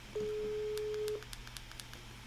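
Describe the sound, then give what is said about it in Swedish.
A steady telephone ringing tone hums for about a second as a phone call is placed back, with a quick run of short dialing clicks and beeps partly overlapping and continuing after it, against a quiet line hiss. “Jag ringde upp nu för att alltså, jag hade ingen ljud på så du har inte stört nu.”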